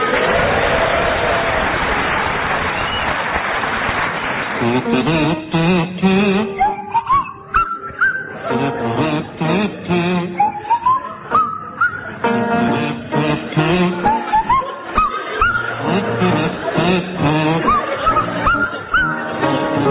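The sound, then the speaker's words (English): Fred McCauley on the kazoo and Tim Brooke Taylor on the swanee whistle play a jaunty, wobbly tune together, the whistle swooping up and down in pitch over the kazoo's reedy hum, loud and continuous throughout. “with Fred McCauley on the kazoo and Tim Brooke Taylor on the Swanee whistle.”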